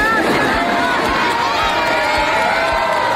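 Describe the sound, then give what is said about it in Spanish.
A crowd applauds loudly for a comedian on his Soft with the Negligent People Tour after he says he is pre-retired, a dense, steady wash of clapping mixed with cheers and scattered shouting voices that carries on without pause. “Dice prejubilado y lo aplauden.”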